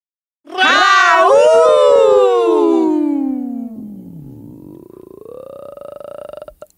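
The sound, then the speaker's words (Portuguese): A woman's long, loud burp, starting as a drawn-out tonal croak that slides down in pitch, then turning rough and gravelly for a few more seconds before cutting off. “Caralho, ela arrotou no final.”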